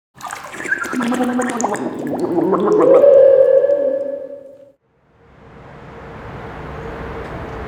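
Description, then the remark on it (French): Water gurgles and burbles with warbling, rising tones for a few seconds, cuts off briefly, then gives way to a steady, moderate rushing hiss of flowing water. “J'enregistre le son de l'eau.”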